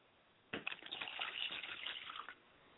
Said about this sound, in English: As I pour libations to my mother and my father's spirit, I don't forget to light a candle for their guidance so they can find their way back to this Bembe today.